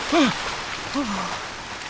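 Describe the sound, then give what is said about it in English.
A steady, continuous rush of fast-flowing river water fills the whole clip as a convoy with horses crosses the river, with two brief rising-and-falling vocal cries briefly standing out above it. “One day, they have to cross a fast-flowing river.”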